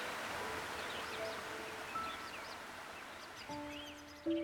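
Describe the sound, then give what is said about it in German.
A steady, even rush of flowing water fills the background while several birds chirp and whistle overhead, with a few longer, clearer whistled notes near the end. “Von allen Seiten hörst du Vogelgezwitscher und unter dir hörst du das Rauschen des Wassers.”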